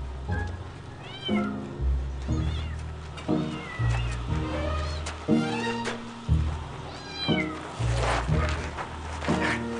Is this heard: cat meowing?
yes